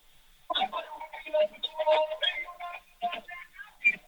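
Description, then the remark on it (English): Thin, band-limited music, a song played on shuffle and held up to a phone, plays through a small phone speaker, tinny with little bass, a steady rhythmic song lasting several seconds at moderate volume. “I'm sure you're getting all of the weird Romanian songs today.”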